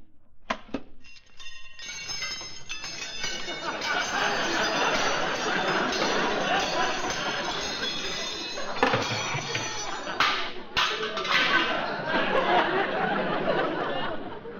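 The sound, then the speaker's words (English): A long, loud cascade of monogrammed silverware clattering and jangling as it is dumped out of a case onto the floor, a dense metallic clinking that pours on for over ten seconds with only a brief lull near the end. “Frankie, that's my silverware.”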